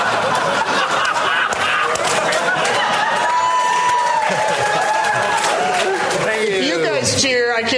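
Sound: crowd cheering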